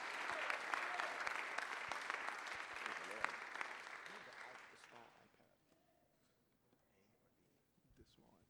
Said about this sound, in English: why don't we give them a hand clap?